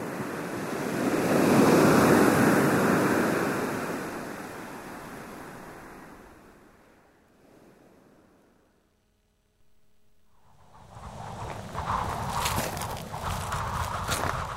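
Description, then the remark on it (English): Ocean surf in Cornwall, in the south of England, on a sunny, windy June day with a man surfing, swells into a loud, rushing crash, then slowly recedes almost to silence before gusty wind buffets in with rough, crackling bursts. No voices are heard. “It's a sunny day, and it's windy too. It's a great day for surfing.”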